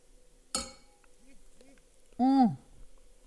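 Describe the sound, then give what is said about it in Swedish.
A single bright clink of drinking glasses filled to the brim touching in a toast, sharp, followed by quiet murmuring and then a loud, drawn-out voiced exclamation. “Det var länge sedan jag fyllde ett glas här till bredden.”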